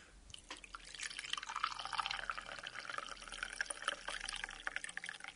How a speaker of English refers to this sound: We better pour this tea and see if it's drinkable. And now for the moment of truth, we'll try and pour the tea out of the teapot.